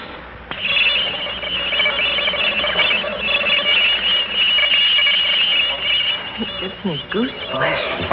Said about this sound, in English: I'm about to play a tape recording for you of the noise pattern that came from outer space earlier this